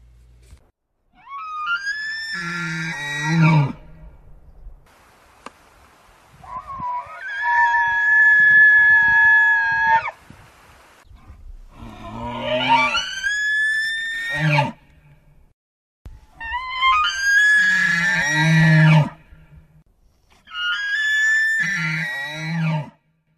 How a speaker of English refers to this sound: Elk are also very vocal, using a series of grunts and squeals to communicate with each other. What do you think these elk are trying to say?